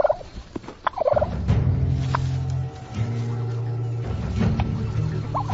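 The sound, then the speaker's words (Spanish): Male wild turkeys gobble in loud, rapid bursts, several birds calling over a steady low rumbling background, in a meadow in autumn as the males compete for breeding rights. No one speaks. “El otoño también es la temporada en la que los pavos salvajes empiezan a pelear.”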